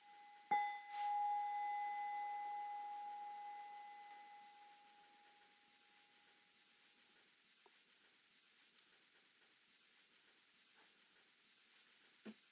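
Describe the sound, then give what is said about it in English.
A single bell is struck once and its clear tone rings out, slowly fading over several seconds against a soft, steady hiss, followed by near-silence with a few faint clicks. “nearby, and distant sounds, bells.”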